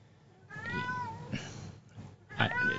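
cat meowing

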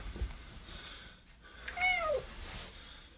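cat meowing

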